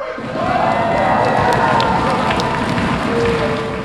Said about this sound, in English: Dozens of people who are recovering from drug and alcohol abuse cheer and pound long picnic tables to celebrate milestones of recovery on a Friday night at Healing House. It's a live-in recovery program in northeast Kansas City, Missouri.